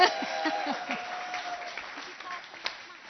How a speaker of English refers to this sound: I saw only half of them were clapping, so why don't we all give them a clap? Because it's quite...